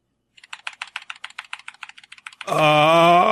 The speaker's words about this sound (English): If anybody in chat wonders, it's they're cherry blue switches, which are, I feel like, they're the loudest of all mechanical keys.